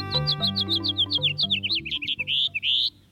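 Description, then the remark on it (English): A house finch sings a rapid, tumbling, raspy run of bright chirpy notes that ends in a few longer, sharp, buzzy slurred phrases. It is heard clearly over a low, steady background tone. “A typical house finch song has a raspy edge and tumbles forward in a jumbled series of notes.”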